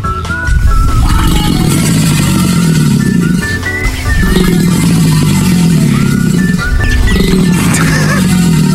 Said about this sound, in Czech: Tohle, prosím pěkně, není ani chrápající lev, ani hroch. To je aligátor severoamerický.